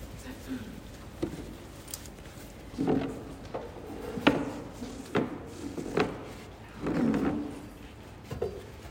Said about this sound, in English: We can pull up another chair.